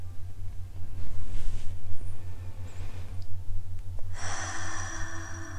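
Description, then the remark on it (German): A single deep breath, drawn in softly and then let out through the mouth in a louder, airy exhale near the end, with a steady low hum underneath and no talking. “atmet einmal tief durch.”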